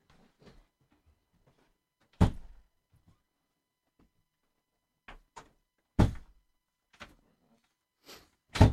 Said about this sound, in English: Okay, once you sit right here, you just shut the door.